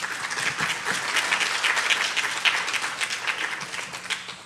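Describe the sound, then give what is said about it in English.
Steady audience applause for the panelists of a discussion about a singer: many hands clapping in a dense, crackling wash that holds at a fairly even level throughout, then begins to thin out at the very end. “and so please, a round of applause for the panelists here.”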